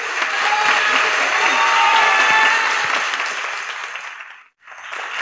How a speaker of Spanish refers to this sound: por favor, un aplauso